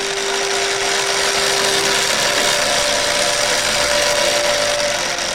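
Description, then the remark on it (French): A pedal-powered smoothie bike blender whirs loudly and steadily at high speed, a constant motorized roar with a humming tone that shifts slightly higher partway through, without any talking. “Et quand tu roules vraiment vite, ben ça a l'air comme si tu faisais de la moto.”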